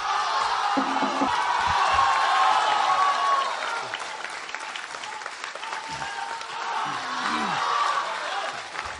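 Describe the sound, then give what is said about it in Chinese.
Sustained, dense applause from a large crowd at a Beijing Deyunshe crosstalk show, its first performance after reopening, welcoming all Deyunshe performers for the opening song; scattered cheers and whoops rise above the clapping, loudest early on before settling into a steady roar. “那首先呢，请您欣赏由德云社全体演员为您带来的开场小唱《发四喜儿》，掌声有请。”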